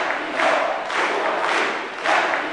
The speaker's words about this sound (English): This was evident at a recent Caracas rally. Shouting, "Cuba yes, Yankee no," the crowd cheered on a group of Latin American leaders who denounced decades of U.S. interventionism in the region.